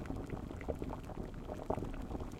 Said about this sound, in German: Jetzt hat das Wasser im Topf angefangen zu